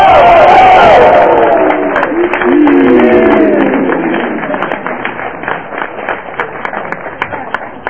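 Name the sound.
audience applause and cheering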